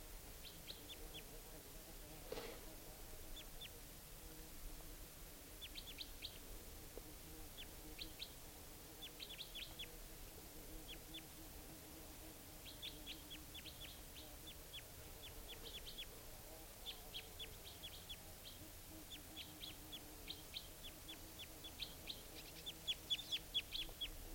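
wild bird calls

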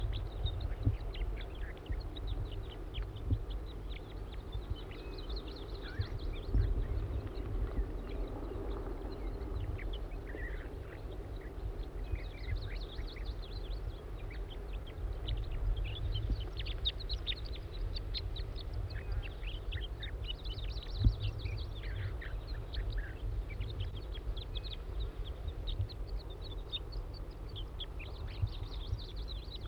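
wild bird calling

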